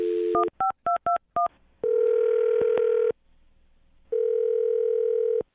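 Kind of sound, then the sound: signal or alarm, telephone number being dialed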